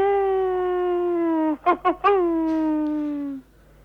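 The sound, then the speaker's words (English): A person imitates a howl with one long, steady, slightly falling vocal tone, broken midway by a few quick warbling wavers before it sustains again and trails off. “You want to do the howling thing?”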